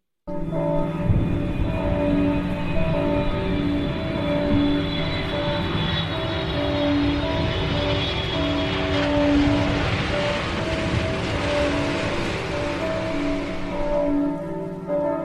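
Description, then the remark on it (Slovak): Church bells ring out in a dense mix of sounds, their sustained tones layered over a steady roar like wind or an engine, holding a constant loudness throughout with no one speaking. “z troch zvukov už nám je jasné, že jeden zvuk je teda kostolný zvon”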